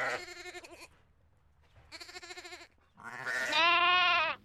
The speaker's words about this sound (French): Et donc, c'est des brebis pour la viande, hein, aussi, on n'a pas précisé. Voilà, oui, c'est ça. Oui, c'est des brebis qui sont élevées pour la viande et aussi un peu pour la laine.